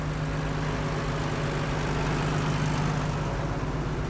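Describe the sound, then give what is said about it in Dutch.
A tractor engine idles steadily, a continuous low rumble with a faint droning hum, unchanging throughout, with no voices. “Is niet jullie tractor wel?”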